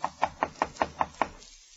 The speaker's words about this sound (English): Jim enters the inn and, inquiring for Silver, is ushered upstairs and told to knock on the door.